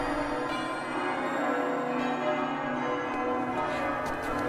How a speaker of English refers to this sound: Oh, listen to the church bells. They're beautiful.